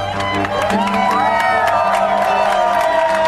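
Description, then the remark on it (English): Outside the city clerk's office in downtown Manhattan, New York City, on a Sunday, a crowd of families, friends and supporters cheers same-sex newlyweds loudly and continuously, with whoops, shouts and rising excited voices over a dense wash of chatter and scattered clapping. “A festive atmosphere filled the streets outside the city clerk's office in downtown Manhattan on Sunday, where hundreds of same-sex couples waited for their turn to say, "I do," while their families, friends, and supporters cheered the newlyweds.”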